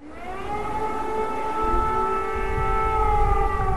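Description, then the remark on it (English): Air raid sirens wail steadily in Kyiv, Ukraine, as the first snows fall, in a long, sustained drone with layered harmonic tones, loud and continuous over a low rumbling background, with no talking. “Air raid sirens sound as the first snows fall on Kyiv.”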